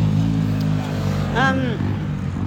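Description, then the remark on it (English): A motorbike drones past with a steady, low engine rumble, its pitch briefly rising and falling in a quick whine partway through before settling back into the hum. “I think that's a motorbike, not my stomach.”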